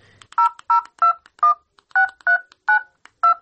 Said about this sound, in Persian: باش که به میام یک زنگ بزنم دیگه باز دلم جمع میشد. خواه باش که می نمبر دایل کنم.